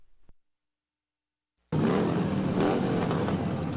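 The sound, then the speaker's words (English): After a brief click and a second of silence, a loud, dense roar of motorcycle engines bursts in and holds steady, with deep throbbing tones and rising revs layered through it, as motorcyclists fill the streets of Washington, D.C. in the annual Memorial Day Rolling Thunder demonstration honoring fallen service members. “Motorcyclists are choking the streets of Washington, D.C. in the annual Memorial Day Rolling Thunder demonstration aimed at honoring fallen service members.”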